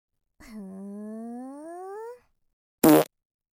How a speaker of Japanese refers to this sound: いやー、汚い音出ちゃった。でもお尻の穴が震えてちょっと気持ちいいかも。ねえ後輩くん、大丈夫？死んじゃったりしてない？もう無理って、これ以上おならされたら死んじゃうって。